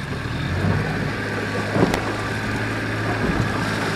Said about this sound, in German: Dann steigt er in ein kleines Motorboot und tuckert durch schönstes blaues Wasser zur palmenbewachsenen Coconut Island.